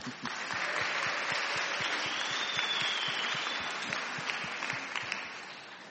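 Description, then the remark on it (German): Sustained applause for the parents from an audience at the start of a sermon, a dense wash of many hands clapping at a steady level for several seconds, with individual claps popping out of the texture. “Gute Arbeit und einen kleinen Applaus für euch.”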